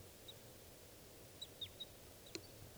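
A wild bird flying overhead gives about five short, thin, high-pitched chirps, spaced irregularly and faint over a steady low rumble of background noise, with no talking.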